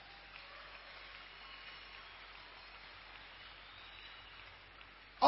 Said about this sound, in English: Let's clap our hands for Jesus.